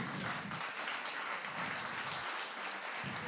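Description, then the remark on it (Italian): Steady applause from an audience after a talk about a referendum question on children's vaccinations, a dense wash of many hands clapping continuously for a few seconds at moderate volume, with no voices standing out. “Mi fa piacere questo applauso perché ritengo che sia veramente una cosa importante.”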